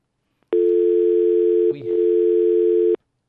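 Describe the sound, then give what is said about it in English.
A steady, loud telephone dial tone after a dropped phone call hums continuously for about two and a half seconds, briefly disturbed by a click or handling noise partway through, then cuts off abruptly. “We had a phone call, and I think I pressed the right button, but it dropped.”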